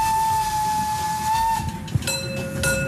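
A very old steam locomotive, giving off coal smoke, blows a long, steady whistle that drops in pitch as it passes by, over a low rumbling rush of the moving train. No one speaks.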